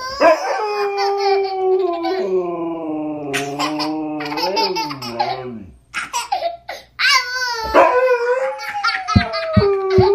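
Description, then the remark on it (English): A husky lets out long, wavering howls that rise and fall while a young child, who challenges the dog to howl, laughs loudly in bursts, the two trading sounds back and forth. “A howling husky, because a husky is a most vocal dog, and a laughing kid.”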